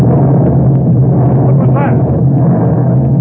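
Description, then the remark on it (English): A loud, deep rumbling explosion of a tube of nitroglycerin down near the water roars steadily for a few seconds, a heavy low boom with a wash of noise, while a voice murmurs faintly beneath it. “Like an explosion down near the water.”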